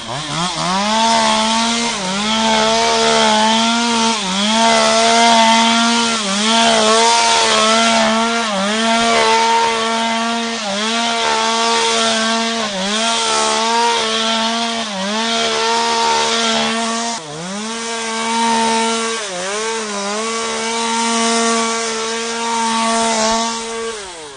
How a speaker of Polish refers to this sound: Całe to skrócicie, czy wytniecie? Nie, skracane jest co roku. Co roku jest skracane. Jak słychać, piła poszła w ruch.